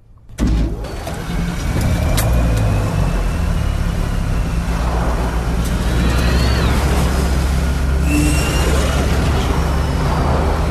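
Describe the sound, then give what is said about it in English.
A radiation-resistant vehicle's engine kicks on abruptly after a brief silence and settles into a loud, steady rumbling drone with a deep low hum, running continuously to the end without any voices. “Just be thankful it's radiation resistant and start the engines.”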